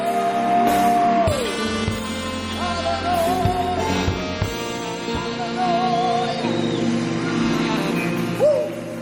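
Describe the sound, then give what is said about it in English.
A church audience cheers and shouts loudly and continuously during a service, clapping in praise of God, with long, high, wavering cries rising above the crowd and scattered sharp claps throughout. “Now put your hands together. Give God the biggest praise.”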